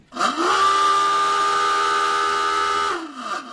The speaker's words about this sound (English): Floating alongside the USS Olympia is a World War II submarine, the Bakuna. It completed 5 wartime patrols in the Pacific Ocean and is similar to the many submarines built by the U.S. Navy in Philadelphia. The dive alarm right here.